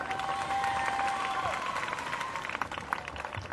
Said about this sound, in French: Il parle 2 minutes. Les applaudissements et les cris durent 5 minutes.